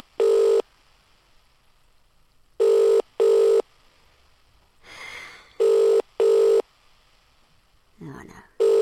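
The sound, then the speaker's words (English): A telephone ringback tone heard from the caller's end of a call placed by pressing the green button, to a man slow to answer: a steady double-burst ring pattern repeating with pauses between, fairly loud and clear, with a brief soft whispery noise in between rings. “Oh, it's ringing.”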